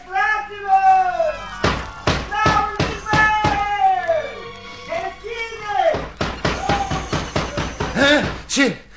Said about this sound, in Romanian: Frate meu, bate cineva în ușă. Cine-o fie acum la miezul nopții?